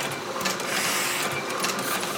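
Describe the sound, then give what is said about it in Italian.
Rotary printing presses printing the newspaper L'Eco del Roditore run with a steady, dense mechanical clatter, a continuous loud churning hum with faint rhythmic pulses repeating throughout, and no voices. “Azionammo le macchine rotative con cui si stampa il giornale.”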